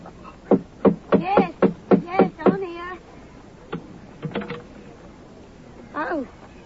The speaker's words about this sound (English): Oh, here we are. Just let me knock for you.